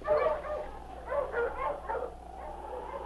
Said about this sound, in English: All right, get onto the sled and let's get going. All right. I'm getting colder every minute. All set. Mush! Mush, you huskies! Get on!